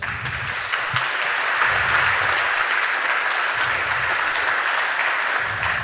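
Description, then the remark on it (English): A crowd on the No Stage applauds steadily for several seconds, welcoming a speaker, an activist of the CCC Switzerland, to a talk; a dense wash of many hands clapping at a fairly loud, even level, with faint low murmurs underneath. “Give him a welcome applause.”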